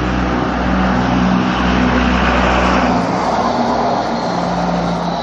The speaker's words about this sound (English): Why, what a noisy truck.